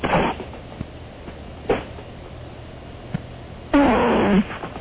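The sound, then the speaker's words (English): Several short, raspy fart bursts at uneven intervals, with a longer, louder sputtering fart near the end, sounding slightly muffled as if through a phone line. A man farts on cue with the phone held down to his backside. “So you can fart on cue? I can fart on cue.”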